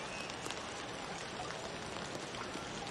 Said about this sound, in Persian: به نظرم بارونش اونقدر هم شدید نیست. خب آره حق با توی. اگه بخوای میتونم برات یه چتر بخرم، ولی فکر نمی کنم اونقدر بارونش شدید باشه.